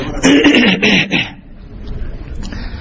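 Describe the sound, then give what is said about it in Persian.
A loud fit of coughing with several rough bursts in quick succession, then it gives way to quiet background noise for the remaining second or so. “بله بازم صدای شما در سرفه من حذف شد به طور کل.”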